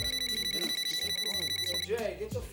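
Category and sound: household object, telephone ringing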